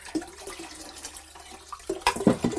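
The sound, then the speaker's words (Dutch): Running tap water splashes steadily while dishes are rinsed, with a few clinks and knocks and a louder burst of splashing toward the end. “Je weet dat, hè, als je dat allemaal direct wat afspoelt, is dat veel beter.”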